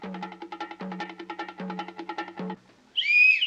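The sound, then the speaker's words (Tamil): A person gives one short, sharp, high whistle near the end, loud, following a stretch of rhythmic, pulsing tonal sound that fades out just before it. “யாரா விசில் அடிச்சது? எதுக்காக விசில் அடிக்கிற?”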